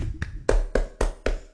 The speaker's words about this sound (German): Ja, ich habe gewonnen. Ich klatsche für mich selber.